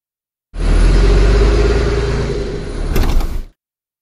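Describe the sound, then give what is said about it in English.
A bus engine rumbles steadily and loudly for about three seconds as a bus of students stops at 12 o'clock for them to get off for lunch, with a short airy hiss near the end before it cuts off. No one speaks. “We'll get off the bus and have lunch here.”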